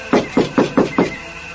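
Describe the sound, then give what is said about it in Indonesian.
Five quick, evenly spaced knocks on a wooden door, fairly loud, each a dull hollow thud, followed by a short quiet pause with no voices. “Biar, aku coba mengetuk pintu ini.”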